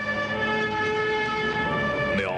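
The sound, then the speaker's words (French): A loud, steady siren tone from approaching cars holds for about two seconds, then its pitch suddenly bends downward as the vehicle seems to pass by. Nobody speaks. “Ensuite, il y a des voitures qui arrivent.”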